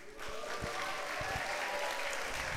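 audience cheering and applauding

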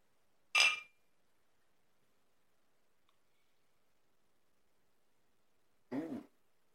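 drink glasses clinking

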